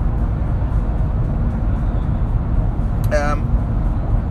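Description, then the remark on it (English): A steady, low engine and road rumble fills the inside of a moving car driving with cruise control set, constant and fairly loud throughout, broken only by a brief warbling tone near the end. “So the temperature's changed again, and in the car, so we've got steamy windows.”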